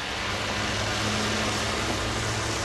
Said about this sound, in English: Finally, the 119th Street bus comes.